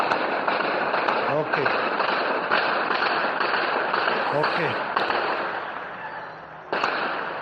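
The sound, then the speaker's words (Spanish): Repeated gunshots from the war in Sudan crack out at irregular intervals, sharp bangs scattered over a dense, noisy background with voices murmuring underneath, fairly loud and steady throughout, recorded in a WhatsApp voice message. “So the now you can hear some shooting. You'll be able to hear some shooting.”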